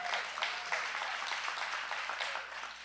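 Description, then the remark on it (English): A church audience applauds the media ministry steadily, many hands clapping in a dense, continuous wash that holds at an even, moderately loud level for the whole stretch, with no voices over it. “Give it up for the media ministry.”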